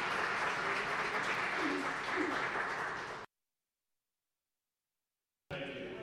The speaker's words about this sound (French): On approuve cette motion par acclamation.